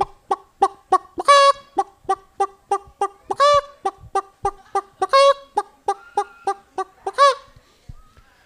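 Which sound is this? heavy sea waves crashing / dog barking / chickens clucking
chickens clucking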